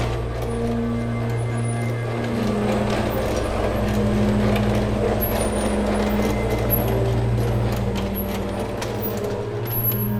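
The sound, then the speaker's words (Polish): A small locomotive is driven a short way back in the other direction. Its engine holds a steady low drone under continuous mechanical rattling and faint clicking, loud and even for the whole stretch with no voices. “No to co, na koniec jeszcze poruszymy kawałek tą lokomotywką? Jedziemy w drugą stronę, tak.”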